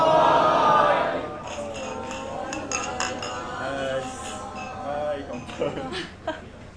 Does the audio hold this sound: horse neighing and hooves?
no